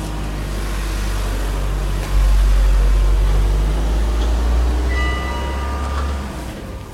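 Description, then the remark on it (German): A car passes, its low engine and tire rumble swelling and holding steady before fading away, with faint ringing of bells in the background and no one speaking. “Jetzt kommt gerade ein Auto.”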